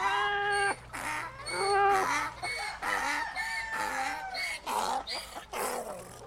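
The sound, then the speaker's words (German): A cat meowing and a rooster crowing at the same time, loud, their drawn-out cries overlapping in a noisy, continuous chorus over several seconds. “Sie bauten sich also vor dem Fenster auf und begannen zu singen.”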